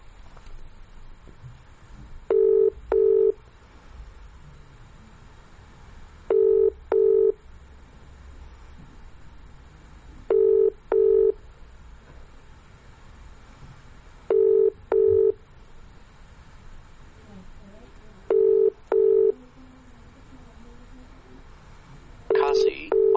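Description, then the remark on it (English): Paired electronic tones beep in a steady repeating pattern, about every four seconds, like a phone dialing into a GW Connect conference call, over a faint background hum. “Con call, GW Connect.”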